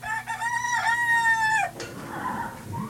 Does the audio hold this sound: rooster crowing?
yes